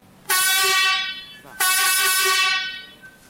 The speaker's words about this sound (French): Mais bien sûr, avant de partir, nous avons demandé à entendre le klaxon d'un autocar. Attention, c'est assez fort.